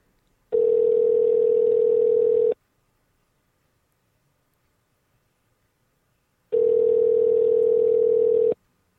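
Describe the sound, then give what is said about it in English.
Ringback tone of an outgoing telephone call placed as a wake-up call, ringing out: two steady two-second electronic rings separated by a long silent pause, clear and prominent, with no voices. “And I believe the phone is ringing.”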